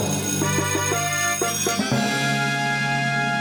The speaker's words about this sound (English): And we haven't done it all pod, but let's go ahead and have Stats ring the bell.